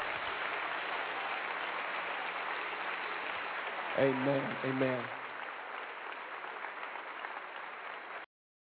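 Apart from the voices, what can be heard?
audience clapping hands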